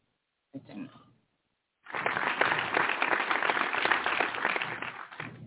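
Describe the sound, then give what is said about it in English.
A short burst of voice, then a crowd breaks into steady, dense applause that holds at a full, even level for several seconds before easing slightly at the end. “All right, let's applaud.”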